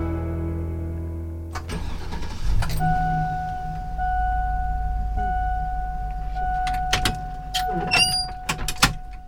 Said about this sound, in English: That's a sound you might recognize. It's a school bus starting up and opening the door for riders.